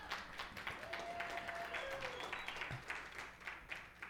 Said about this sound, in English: I just told them that I'm going to give the entire pastoring ministry over to you, and they started clapping.